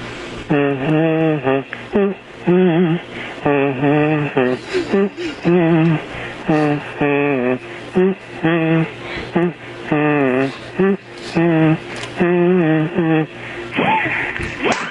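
A buzzy kazoo plays the happy birthday tune, loud and close, note after note in a steady sung rhythm with a thin, telephone-like tone and no talking.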